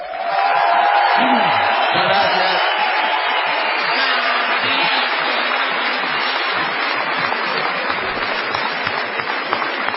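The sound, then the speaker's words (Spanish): A large crowd at a show gives a sustained ovation for Gillespie, dense applause and cheering holding steady and loud for the full stretch, with scattered whoops and shouting voices mixed into the roar. “Todavía peor será la ovación tributada a nuestro Gillespie.”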